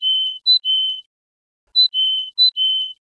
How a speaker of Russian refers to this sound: В данном случае это связка из куликовой синицы и одинарного кулика. Слушаем колено под названием «Куликовая синица».